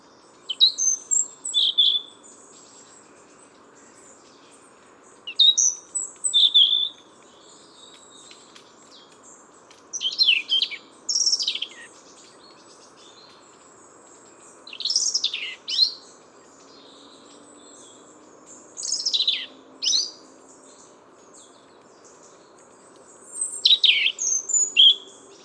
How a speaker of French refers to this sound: C'est à nouveau un rouge-gorge, avec un chant très particulier.